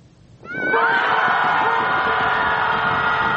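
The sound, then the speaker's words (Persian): After a brief quiet start, a group of upset people at a group-screaming gathering on the beach in downtown Chicago, USA, breaks into loud, sustained shouting together to vent their anger, many voices blending into one continuous, strained roar that holds steady to the end. “از راه داد زدن، فریاد زنی گروهی.”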